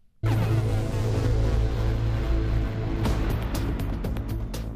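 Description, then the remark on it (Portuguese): Stone quarry machinery in the small locality of Trancoso, Vila Franca de Xira, Portugal, roars in abruptly: a loud, steady engine drone with a deep humming tone, joined in the second half by a series of sharp clanks and knocks. “Pois para mim, pedreira nunca mais.”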